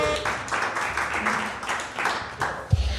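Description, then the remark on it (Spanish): An audience applauds for Kiwi, a dense, steady wash of clapping from many hands that holds fairly loud for a few seconds, ending with a low thump. “¡Fuerte aplauso para Kiwi!”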